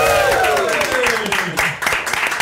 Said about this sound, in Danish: Det er jo faktisk nærmest jer selv, I klapper af, fordi tusind tak, fordi ja, det er jo nogle af jer, der har støttet det her projekt allermest.